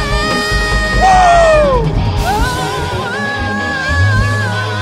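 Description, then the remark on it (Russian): A worship audience shouts and cheers together in a loud, sustained roar praising God, with rising yells and whoops overlapping across the whole stretch, sounding full. “Высвободи этот крик из тебя!”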